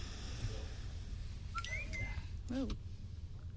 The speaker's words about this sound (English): Whoa. What's that sound? I'm just whistling at you. No, it's Periscope. Oh, Periscope. Yeah. Periscope notification.